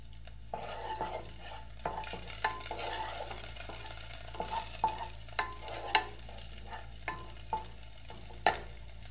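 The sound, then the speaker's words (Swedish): Red onion and garlic fry over high heat in cold-pressed sesame oil in a saucepan with a steady, crackling sizzle, broken by sharp scraping clicks as a utensil stirs the pan at irregular intervals. No voices. “I med rödlök och vitlök och låt fräsa på hög värme tills de får färg.”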